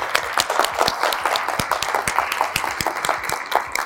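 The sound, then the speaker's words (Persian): An audience bursts into steady applause, many hands clapping in a dense, crackling patter that holds at a fairly even, moderate loudness throughout, with no voices. “تشویقش کنید لطفا.”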